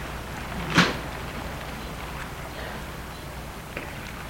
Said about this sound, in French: Et il les fait entrer dans l'immeuble en se servant de la clé pour ouvrir la porte de l'immeuble.